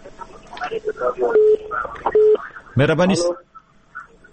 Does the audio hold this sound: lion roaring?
no